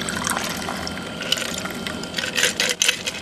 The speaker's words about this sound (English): So our cocktail glass here, pour it in.